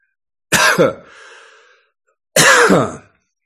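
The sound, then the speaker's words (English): Two harsh coughing bursts separated by a short pause, the first trailing off into a raspy throat-clearing rattle, with no talking. “And the coughing is shamanic.”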